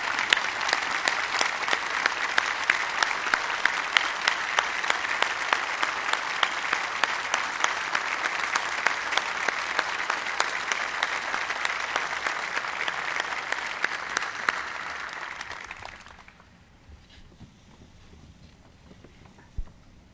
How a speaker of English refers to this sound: I thank you for your many years of public service to the state and to the people of North Carolina. Please stand and give Governor Perdue a round of applause to thank her for her public service.